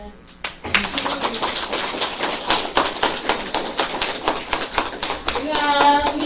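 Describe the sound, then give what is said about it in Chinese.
An audience breaks into applause at Sheng Guanyin Temple (聖觀音寺), welcoming a lay Buddhist guest from Hong Kong who has come to teach the dharma. It is a dense burst of many hands clapping that starts abruptly and carries on steadily at a loud level for several seconds. “鼓掌。”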